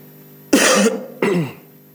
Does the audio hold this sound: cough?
yes